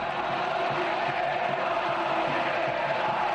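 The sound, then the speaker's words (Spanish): A dense crowd of Betis fans chants together at the player Jordán after the match ends, a loud, steady roar of many voices that holds without a break for the few seconds heard. “Por ejemplo, los béticos le gritan esto a Jordán.”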